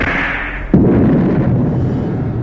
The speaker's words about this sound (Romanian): Aud un tunet, Zeus!